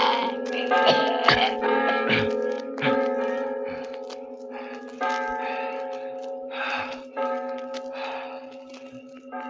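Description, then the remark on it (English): Church bells ring out in a dense, overlapping peal, their sustained tones layered with sharp metallic strikes that recur irregularly throughout, loud with no voices. “You'll never ring those cursed bells again.”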